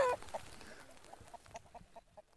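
Summerlad chickens cluck in a loose run of short, choppy calls, fairly quiet, with no one speaking over them.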